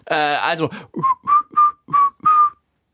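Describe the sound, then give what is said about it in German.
A person whistles a run of five short, clear notes at a steady, bouncy rhythm, fairly loud, right after a brief sung or voiced tone. “Also, die Antwort lautet, und ich glaube, jetzt machen wir es nicht gepfiffen, okay, oder?”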